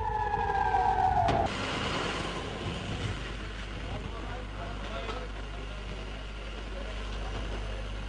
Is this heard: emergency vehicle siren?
yes